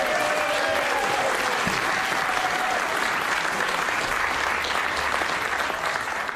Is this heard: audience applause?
yes